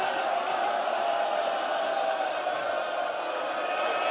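A large crowd chants "hel hel" in unison, a dense, sustained wall of many voices holding a steady, droning pitch at an even, fairly loud level with no pauses.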